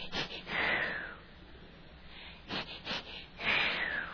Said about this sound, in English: Can you hear the breathing?